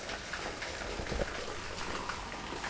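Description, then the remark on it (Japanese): A small waterfall beside a river trickles steadily, a soft continuous splashing hiss with faint droplet patter, at low volume with no voices. “川の音かと思いきや、みんな聞こえるかな、これちょろちょろちょろちょろ出てんのは、これが轟いたという滝ですね。”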